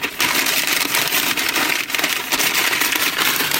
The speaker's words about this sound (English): Paper bag solo!